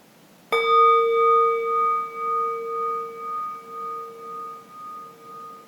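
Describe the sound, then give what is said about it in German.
A gong is struck once to end a moment of rest, producing a bright metallic ring with layered overtones that sustains and slowly fades with a gentle wavering pulse. No one speaks. “Und so kannst du einen Moment ruhen, bis ich den Gong schlage.”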